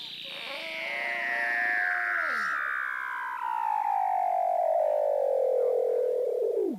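Weddell seal underwater calls in Antarctica, heard through the ice: a long, eerie whistle glides steadily downward from high to low pitch over several seconds, overlapped early by a shorter buzzy, harmonic tone that drops off sharply. No talking.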